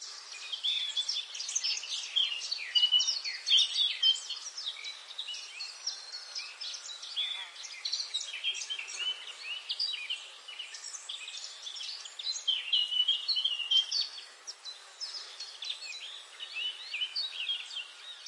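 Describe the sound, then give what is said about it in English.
A dense, steady chorus of birds chirping and twittering in a forest on a sunny afternoon, many overlapping high calls, with no pauses across the whole stretch. “One sunny afternoon, as butterflies danced among the blooms and birds chirruped harmoniously, Lila stumbled upon an ancient, gnarled oak tree.”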